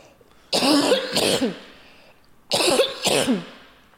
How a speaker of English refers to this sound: I'm going to cough, sorry.